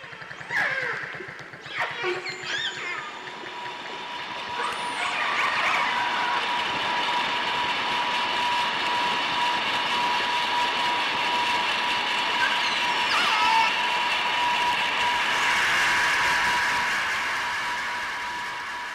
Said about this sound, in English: And that is a really big problem for animals that use sound as their primary sense of communication. Just listen to this audio of how noise from a passing boat totally drowns out dolphin communication.